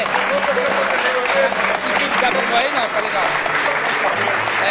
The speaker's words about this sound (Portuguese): por favor, uma salva de palmas para os compositores que estão aqui.